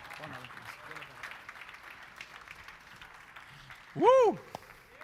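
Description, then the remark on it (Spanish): A church audience applauds the Lord with steady, dense clapping from many hands; near the end a single loud, rising-and-falling whoop or whistle cuts through the applause. “Denle un aplauso fuerte al Señor.”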